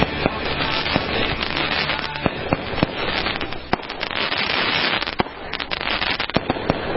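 The Special America Tonight fireworks pop and crackle continuously, with sharp bangs scattered irregularly over a dense, noisy rumble.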